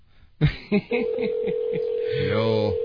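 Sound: telephone call dialing tones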